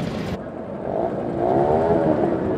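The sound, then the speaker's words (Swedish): Small moped engines rev loudly together at the start of a moped rally, released heat after heat, their whining pitch rising and wavering as the pack accelerates away, a dense continuous roar with no talking. “Omgång efter omgång släpps mopederna iväg på det här rallyt.”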